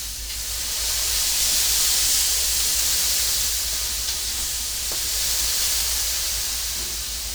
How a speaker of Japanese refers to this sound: はい、ここにこの水をかけてみてください。いい音です。さあもう一回、熱い蒸気をしっかり出していきましょう。